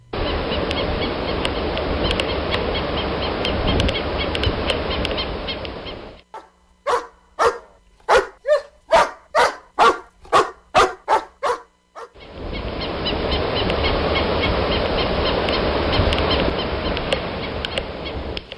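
dogs barking

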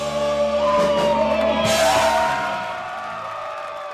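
crowd noise

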